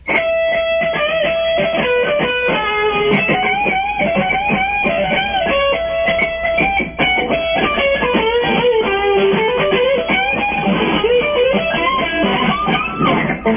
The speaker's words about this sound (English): All right, play a very popular guitar lick, please.